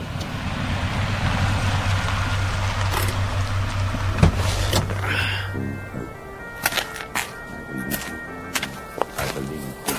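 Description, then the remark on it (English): A car engine hums steadily for several seconds, then winds down and cuts out as the driver pulls over to see to the boot, which is full of shotguns, followed by a few sharp clicks and knocks. “I'll have to pull over and see to the boot.”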